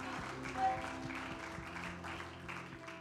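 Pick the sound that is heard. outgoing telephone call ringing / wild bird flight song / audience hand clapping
audience hand clapping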